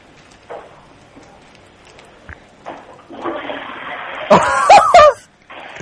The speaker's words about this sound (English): I'll flush the loo, see if it's working. All right, go ahead and flush it and I'll listen. Huh? I'll listen here. Let me hear you flush the loo.